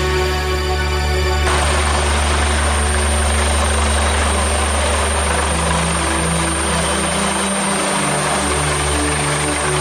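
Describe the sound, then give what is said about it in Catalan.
A helicopter landing on the rooftop of a skyscraper, rotor thudding loudly and steadily over a broad engine whine, its pitch shifting as it descends and settles; no voices. “Aquest so és el d'un helicòpter aterrant al terrat d'un gratacel.”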